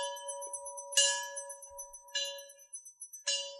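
commemorative bell ringing

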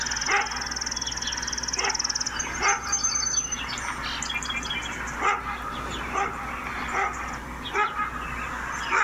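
dog barking repeatedly

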